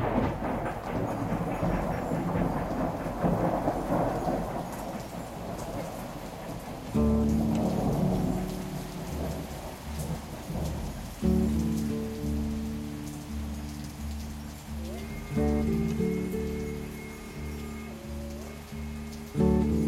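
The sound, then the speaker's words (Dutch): Steady hissing rain with a low rumble of distant thunder, ambient sound taken from an LP, fills the first seconds, then music with sustained, harmonic tones comes in over the rain and carries on to the end. “Met de treinen die voorbij rijden, onweer in de verte.”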